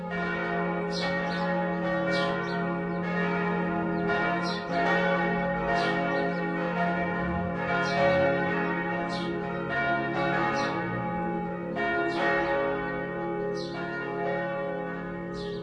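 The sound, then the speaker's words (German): A church bell in a church tower in Prien rings at 12 noon, steadily for the whole stretch, its strokes striking about once a second and blending into a rich, sustained wash of overlapping tones, with no voices. “Oh, jetzt ist es 12 Uhr. Ich sollte jetzt mal läuten.”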